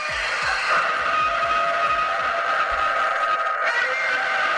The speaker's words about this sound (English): It's Godzilla. They got a Godzilla car horn